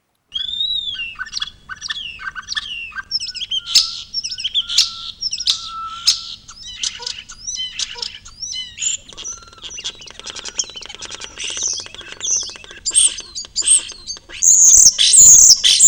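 A starling's long, rambling warbling song, an entire sequence of varied whistles and chirps, building toward the end into dense rapid clicks and shrill high trills, loud with no voices.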